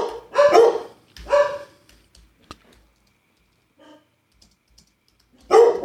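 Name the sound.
dogs barking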